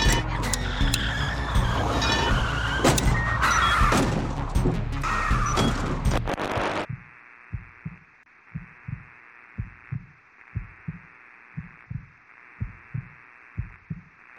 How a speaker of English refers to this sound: Hold on, I'm going through the wall of cars. What? I said, hold on. Where'd you learn to drive?